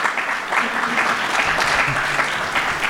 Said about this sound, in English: So a round of applause for those representatives.